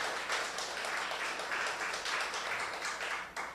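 An audience applauds steadily for a few seconds, a dense wash of many hands clapping at even volume with no voices over it, tapering slightly at the very end.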